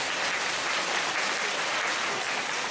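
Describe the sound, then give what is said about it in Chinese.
An audience applauds steadily throughout to encourage a man who says he will start eating vegetarian, a dense, even patter of many hands clapping at constant loudness with no voices standing out. “哦，借口要吃素了，大家鼓掌鼓励他。”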